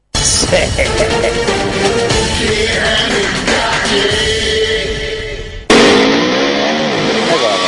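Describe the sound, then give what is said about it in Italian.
A Tata truck engine in India revs loudly over a dense, noisy background, its droning pitch wavering, then an abrupt cut leads into a steady rising whine of the engine; voices may be mixed in. “Le immagini arrivano dall'India, come potete vedere c'è un camion della Tata, un po' di fregna e all'improvviso il delirio.”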